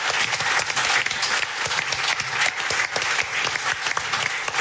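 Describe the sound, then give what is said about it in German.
A crowd claps steadily for a female guest on a show, a dense, continuous wash of applause with many overlapping hand claps, loud and unbroken for several seconds with no voices over it. “Applaus für unsere Gästin.”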